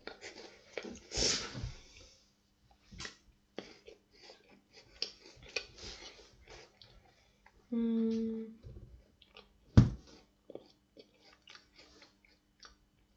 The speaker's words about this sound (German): Okay, ich schreibe da, die handschriftliche Notiz schreibe ich noch was rein. Ich brauche einmal den Stift.